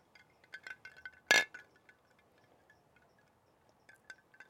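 Glasses of Rolly's drink, made from a shared recipe, clink together in a toast, one bright ringing chime standing out near the middle, surrounded by a few lighter, scattered taps and faint tinkles of glassware.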